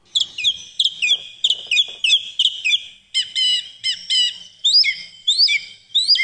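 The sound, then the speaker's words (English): A song thrush sings loudly, delivering bright whistled phrases that it repeats two or three times before switching to a new one, in a brisk, steady rhythm with no talking. “Let us remind ourselves of the song of the song thrush.”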